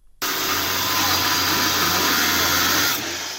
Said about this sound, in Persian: صدای اره برقی نیروی انتظامی برای ورود به یک محل غیرقانونی استخراج بیتکوین یکی از انواع رمزارزها.